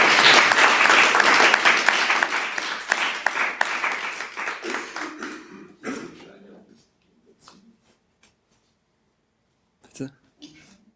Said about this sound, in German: Ja, großen Applaus nochmal für die Aufmerksamkeit.